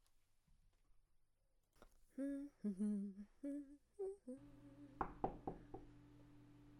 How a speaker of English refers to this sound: Who the fuck knocks this late at night? I'm coming! Just give me a damn minute!